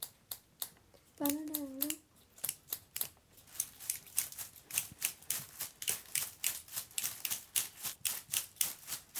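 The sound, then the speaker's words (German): Crisp scissor snips from a group all snipping scissors together repeat in a quick, steady rhythm, fairly loud throughout, with a short high-pitched voice sounding briefly near the start. “Dass wir alle mal die Scheren nehmen in die Hand.”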